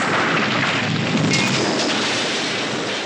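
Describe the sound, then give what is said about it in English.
A train crash: a loud, sustained roar of grinding, crashing noise that stays dense and rumbling for the full three seconds, with no voices. “I'll tell you what, a train crash.”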